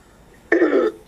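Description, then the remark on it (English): During a Green Party committee meeting, a single sneeze bursts out abruptly after a moment of near silence, a loud, harsh, breathy blast lasting under half a second before cutting off. “Bless you.”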